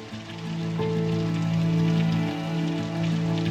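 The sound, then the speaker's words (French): Heavy rain pours down in a dense, steady hiss that fills the whole stretch, with a low, constant droning hum running underneath. No one speaks. “Et le 20 avril 1975, au petit matin, sous une pluie diluvienne, une jeep et deux camions s'arrêtent devant les grilles.”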